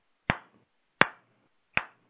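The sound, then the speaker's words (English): Three sharp hand claps ring out alone at a slow, steady pace, each a crisp smack with a brief fading tail and roughly three-quarters of a second between them. “Apparently it has something to do with the word slow hand clap, which basically is the sound of this.”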